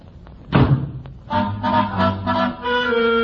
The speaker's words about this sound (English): With that, he bangs the door and leaves.